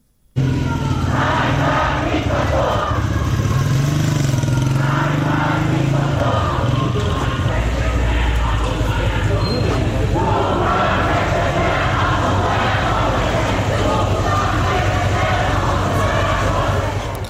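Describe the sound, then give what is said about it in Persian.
A large crowd of students at Shahid Beheshti University in Iran, protesting the killing of Mahsa Amini, shouts and chants slogans such as "Death to the dictator" together in loud, rhythmic bursts that rise and fall, with a steady roar of collective noise running underneath throughout. “الان میتونیم صدای دانشجویان دانشگاه شهید بهشتی رو هم بشنویم.”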